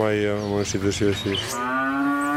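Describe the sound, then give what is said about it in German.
Cows moo loudly, a long, deep lowing call that wavers and breaks briefly midway before stretching out again, with no talking. “Aber wenn ich nicht gießen darf, was sollen meine Kühe dann fressen?”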